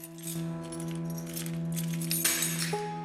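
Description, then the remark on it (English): A bunch of keys clatters and jingles as it drops to the floor outside a red flat door at the top of tenement steps, a short metallic rattle over a steady, humming musical drone. “He drops his keys.”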